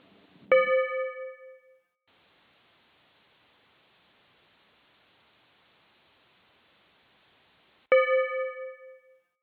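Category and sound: signal or alarm, bell ding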